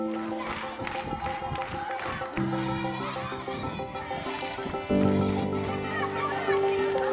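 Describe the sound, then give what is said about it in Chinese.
A crowd of children at a school in a slum in Johannesburg, South Africa, sings and cheers together, voices holding steady, bright notes that jump to new pitches partway through, with excited shouts layered over the loud, continuous chorus. “您现在听到的欢呼声和歌声来自南非最大的城市约翰内斯堡内的一所位于贫民窟的学校。”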